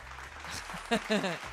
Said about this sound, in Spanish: Gracias, muchas gracias por aplaudirme.